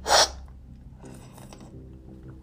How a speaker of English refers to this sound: Oops. Man, that was almost a bad one. You almost caught me, like, fucking coughing on goddamn coffee juice for the next 5 minutes. You almost put down the wrong goddamn fucking, the wrong pipe, so to say.